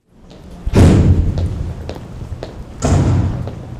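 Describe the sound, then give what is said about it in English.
A heavy metal door at the Anchorage Correctional Complex, a prison in Alaska, slams shut twice, each booming impact ringing out with echo, with smaller clanks and knocks in between and no one speaking. “Through heavy metal doors, down a plain white hallway is a plain white room lined with tiny two-person cells.”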